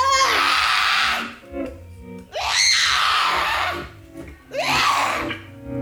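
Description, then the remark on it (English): An audience screams loudly in three long bursts, each lasting about a second or more, with brief lulls between them and no talking. “Because you know, sometimes whispering's okay, but sometimes you feel better if you just scream.”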